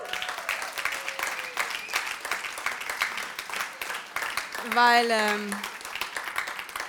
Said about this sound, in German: wenn ihr jetzt bei jedem Team klatscht, werden wir heute nicht fertig, okay?